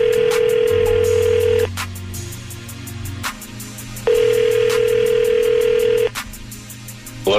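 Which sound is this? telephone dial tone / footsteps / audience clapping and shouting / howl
telephone dial tone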